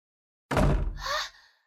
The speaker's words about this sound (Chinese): 这孩子还肯摔门了